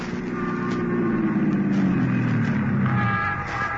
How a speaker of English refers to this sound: He climbed into a squad car and hurried back to Barbara Carroll's apartment, where Jack Olson lived as a boy.